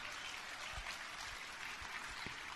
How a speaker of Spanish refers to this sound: Dese un aplauso si quieren, no hay problema.